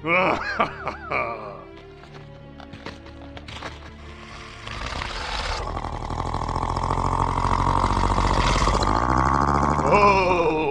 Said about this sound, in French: Ça va l'attirer en moins de deux. Ha! Ce doux grognement est toujours annonciateur d'un magnifique spectacle.